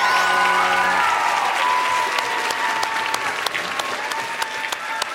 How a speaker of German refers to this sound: bitte einen ganz, ganz großen Applaus